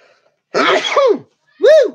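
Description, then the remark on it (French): A loud sneeze into the elbow: a burst of harsh noise followed by a short voiced cry, with a brief pause between them and no talking. “Attention, je vais éternuer.”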